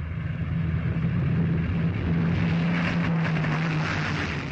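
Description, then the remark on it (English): A Spitfire fighter plane's propeller engine drones steadily and loudly, a continuous low hum with a broad roaring wash above it, holding constant throughout with no voices. “Britons are still familiar with the drone of the Spitfire's engines and the silhouette of its elliptical wings.”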